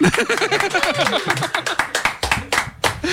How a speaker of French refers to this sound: Et applaudissements.